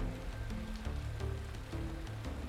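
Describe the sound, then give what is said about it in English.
Quiet, steady rainfall hisses continuously, with faint scattered drop patters, while soft, slow low-pitched music hums underneath. No one speaks. “I love listening to the rain.”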